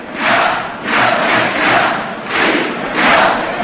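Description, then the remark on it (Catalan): A large outdoor crowd in the Plaça del Blat chants independence slogans in unison, rhythmic surging shouts repeating roughly every second, loud and broad, with no single voice standing out. “I veiem com crida la plaça també, Fins i tot veiem els dos consellers aplaudint o seguint el ritme d'aquests crits d'independència, una estelada ara mateix al mig de la plaça del Blat.”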